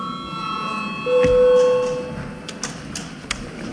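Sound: parliament chamber bell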